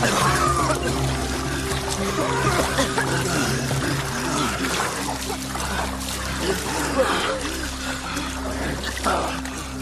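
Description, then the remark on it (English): Water from a well pours and splashes steadily for about ten seconds, a dense, continuous rush with scattered splatters, fairly loud, with a low hum running underneath. “When you desperately need water and you find it, you drink deeply, you drink joyfully, you splash it all over yourselves, you enjoy it, and it saves your life.”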